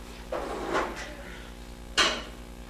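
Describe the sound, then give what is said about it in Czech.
A chair scrapes and shuffles across the floor for a moment as it is brought over to sit on, then settles with a sharp, louder knock. “vezmou si židlu tam od Jitky, pojďte si sednout tady”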